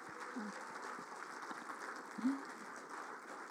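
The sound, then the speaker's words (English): A church audience at an Easter service gives a clap offering to glorify Jesus, clapping steadily, a dense, even wash of many hands filling the whole clip, with a brief louder accent partway through and a faint cheer or voice mixed in. “Let's give him a good clap offering.”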